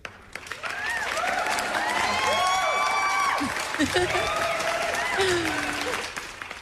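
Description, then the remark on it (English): A crowd claps and cheers steadily for several seconds, with dense applause and scattered whoops and high-pitched shouts rising above it, fairly loud throughout. “I just thought it'd be cute to have everybody cheering and clapping for that.”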